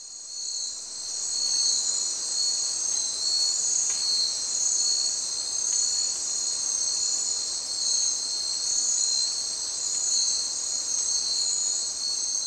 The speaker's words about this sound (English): Wow, that's pretty quiet by comparison. Yeah, you've lost the birds, you've lost the mammals, really you just have the background insects. I mean, it's just a night and day difference.